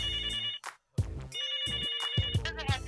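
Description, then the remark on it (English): A telephone rings with an incoming caller's call to the LPG Radio show, its bright electronic ringtone sounding in loud bursts that repeat with short gaps between them, and no voices present. “Why don't you take some of the phone calls?”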